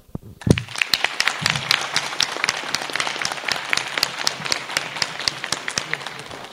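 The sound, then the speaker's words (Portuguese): A crowd in Condor, Rio Grande do Sul, Brazil, breaks into sustained applause for the town, many hands clapping densely and steadily for several seconds, loud, with no talking over it. “vamos fazer assim, vamos começar diferente, vamos dar uma salva de palmas a Condor.”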